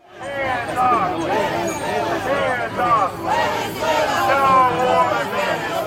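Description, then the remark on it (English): A large crowd of protesters in Lower Manhattan, across the street from a courthouse, chants and shouts early in the morning in support of Maduro, waving Venezuelan flags. Many voices overlap in a loud, steady roar that rises and falls in waves for several seconds. “early this morning, there was a group of protesters across the street voicing support”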